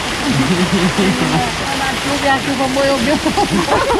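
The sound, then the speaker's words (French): Heavy tropical rain in the Amazon pours down in a steady, dense hiss that fills the whole scene, with small leaks letting water through, and a voice speaking over it. “Ah, il y a des fuites. Des petites fuites.”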